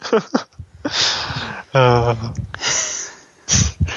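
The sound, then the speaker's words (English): Heavy breathing: a series of noisy inhales and exhales of uneven length, one carrying a brief raspy, voiced tone, with short pauses between breaths. “Like, outside of, like, some breathing that might be him.”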